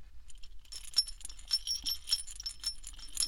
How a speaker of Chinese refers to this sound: 摇动屁股的时候，尾巴上的铃铛就会晃来晃去的